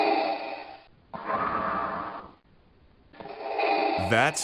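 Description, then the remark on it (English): Slow, heavy breathing from a sleep relaxation sound recording, with three long drawn-out breaths separated by short pauses, each broad and airy, ending in a brief higher rasp. “Maybe like breathing along to it or something.”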